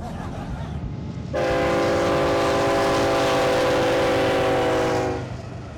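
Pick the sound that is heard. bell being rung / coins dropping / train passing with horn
train passing with horn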